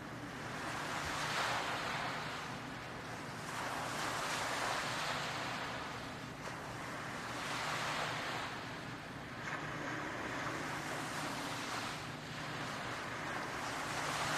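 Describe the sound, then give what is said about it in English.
Ocean waves roll onto the shore in steady, broad surges, swelling and fading every few seconds, with a constant hiss of surf and a touch of wind. No voices. “Notice the sound in the background of the waves and this continual rolling, this continual movement at the surface.”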